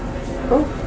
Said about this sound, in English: Oh, aeroplane sounds very low. Yeah. We're going to have to shut the door, aren't we, in case the noise comes through.